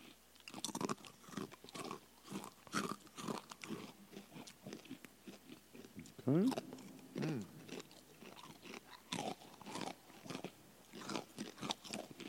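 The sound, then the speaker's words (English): Loud crunching and chewing of crisp food right at the mic, a steady run of sharp bites and mouth noises, with a brief murmured word and a hum partway through. “Yeah, crunching into the microphone.”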